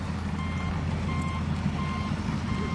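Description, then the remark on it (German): A heavy wheel loader rolls slowly toward a worker, its brakes not gripping as expected, rumbling with a low, steady engine drone while its reversing alarm sounds evenly spaced beeps, four repeating tones at a regular pace, continuous. “Ein Radlader rollt langsam auf einen Kollegen zu.”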